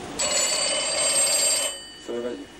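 A telephone bell rings in one long, bright, trilling burst lasting over a second, loud, followed by a brief lower tone as the ring cuts off.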